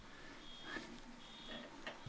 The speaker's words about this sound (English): Now we've got a car alarm going.